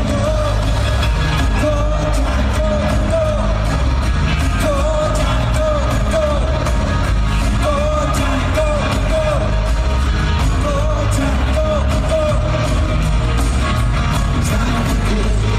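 Loud live rock music plays throughout, with a singer's wavering vocal line over driving drums and guitars, and an excited crowd cheering and yelling beneath the band.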